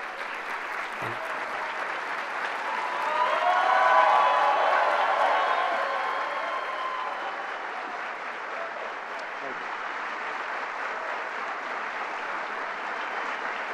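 Sustained applause from a large audience at the Gran Teatro in Cuba as US President Barack Obama steps to the lectern and waves to the crowd, dense and steady throughout, swelling louder for a few seconds early on with scattered cheers mixed into the clapping.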